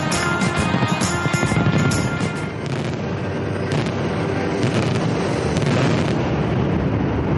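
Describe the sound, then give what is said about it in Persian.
New Year 2015 fireworks explode in a dense, continuous barrage, with sharp crackling bursts over a loud, steady rumble that never lets up across the whole stretch. “بنای اتبال در پاریس که در خیابان شانزلیزه قرار دارد، مرکز آتش‌بازی و مراسم تحویل سال نو در فرانسه است و به گزارش پلیس آن شهر بیش از 1 میلیون نفر در جشن‌های حلول سال 2015 شرکت کردند.”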